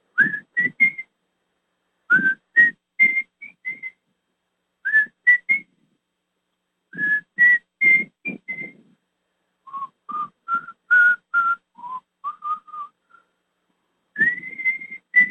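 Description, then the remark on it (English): A person whistles a slow, simple melody, the whistle from the beginning of a song, in short repeated phrases with brief pauses, the clear tones fairly loud, with breathy accents at the start of notes and no talking. “And the beginning, how many of you recognize this little whistle in that song?”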